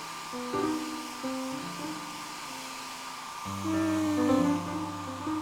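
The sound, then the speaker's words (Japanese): A hair dryer blows steadily as an older brother dries his younger sister's hair, its continuous airy whir holding an even level throughout, with gentle background music playing over it. “そんなドライヤー使わなくてもすぐ乾くんだけどね。”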